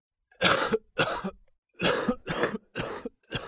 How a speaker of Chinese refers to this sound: 有一晚正是瞓到好香甜的王次仲被他父亲的咳嗽声吵醒了